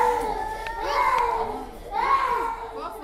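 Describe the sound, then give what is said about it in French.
Young children cry and wail in drawn-out, high-pitched bursts, loud, with a short pause before another cry swells up and overlapping voices behind, as medical staff prick their thumbs to take blood samples for a malaria test in a hospital in Nigeria. “Des enfants qui pleurent pendant que le personnel médical pince leur pouce pour prélever des échantillons de sang pour le test de paludisme, une scène habituelle dans les hôpitaux du Nigeria.”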